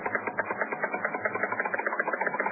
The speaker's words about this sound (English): listen to that counter. This bee is full of radioactivity. Now watch, I'll move the rod close to him and pull it away again.